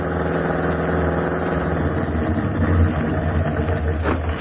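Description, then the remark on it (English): A new Red Cross motor corps car idles steadily as observers arrive at the Cat Canyon post in the morning, a low, continuous rumble with even pulsing, holding a constant level throughout with no speech. “Hey, this the new car they're hauling us around in?”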